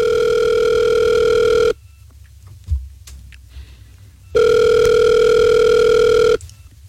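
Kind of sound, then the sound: signal or alarm, telephone call ringing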